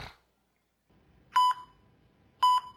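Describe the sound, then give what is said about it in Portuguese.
A mobile phone beeps twice, each a short electronic tone with a brief double pulse, spaced about a second apart, clear over faint background noise. “Desliga a porcaria do celular, do telefone, sei lá o que que é.”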